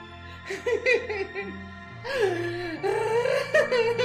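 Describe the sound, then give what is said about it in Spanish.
A woman sobs, her voice breaking into wavering, high-pitched whimpers and shaky cries that rise and fall, with a steady low hum running underneath. “La voz se abre paso entre los sollozos.”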